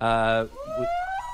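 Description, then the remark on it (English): A whale song: a loud, buzzy harmonic tone breaks off into a single slow, rising moan that glides upward like a wavering whistle, with no talking over it. “You hear that? Yeah. That's whale music.”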